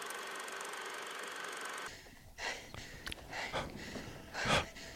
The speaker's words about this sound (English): There's that breathing. Yep. Yeah. We'll do the sound for you for the trailer since the audience can't see it.